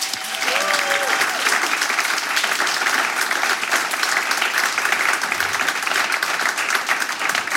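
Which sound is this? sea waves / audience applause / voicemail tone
audience applause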